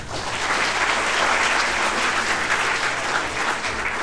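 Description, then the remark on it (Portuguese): Steady applause from an audience, a dense continuous patter of many hands clapping at even loudness for the full four seconds, with no voices on top. “Pessoal, palmas pro cidadão.”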